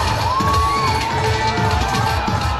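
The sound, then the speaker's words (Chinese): A large audience at a summer awards ceremony held beside a swimming pool applauds and cheers loudly and steadily after a singing group's song, a dense wash of clapping with shouts and a few high whoops rising above it. “他们的歌声赢得了观众热烈的掌声。”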